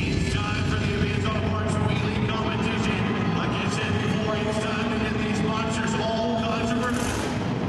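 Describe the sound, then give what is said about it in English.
Powerful methanol-fueled monster truck engines, including Captain's Curse, Iron Warrior, Thrasher, Backdraft, Maximum Destruction, Black Stallion and the Eradicator, roar loudly and continuously in their first revs, their deep droning pitch wavering, with indistinct voices blurred into the dense din, releasing a blue mist of spent methanol. “With the first engine revs, a salt blue mist of spent methanol invades the breathable air.”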